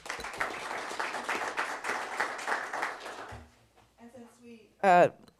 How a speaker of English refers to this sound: And 15 years, Carrie Murphy. Clap for her.